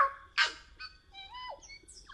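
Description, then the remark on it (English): A tui of New Zealand calls with a rapid string of electronic-sounding notes: a harsh burst, then whistles that slide and warble up and down, strikingly like R2-D2's beeps. The call is clear, with no talking. “Indeed, it's the tui of New Zealand.”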